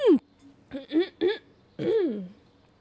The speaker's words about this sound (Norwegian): Litt stakkars dere. Jeg sitter og kremte med sånn ekkel grøgg i hals i øret deres.